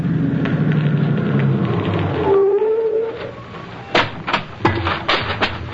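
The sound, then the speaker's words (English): A car coming up the road: a steady low engine rumble and hum with a brief rising whine partway through, then a few sharp clunks and knocks near the end. No one speaks. “Mr. Keene, there's a car coming up the road.”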